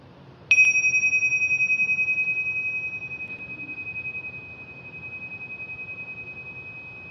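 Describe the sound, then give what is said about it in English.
A single gong is struck once and rings on with a clear, steady tone, slowly fading over several seconds with a gentle pulsing shimmer. No one speaks. “Listening to the sound of the gong.”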